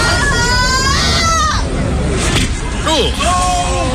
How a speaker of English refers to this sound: You could even hear the crowd like, "Wow, that must have hurt."